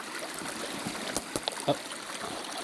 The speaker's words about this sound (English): And walking through this beautiful creek that is, as you can hear, babbling. I don't think this is a brook.